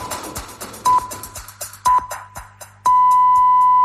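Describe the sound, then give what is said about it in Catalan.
Radio time signal beeps: two short, high pure-tone pips a second apart, then a long sustained tone, sounding over a faint clicking, ticking background. “Nosaltres ja busquem les senyals horàries.”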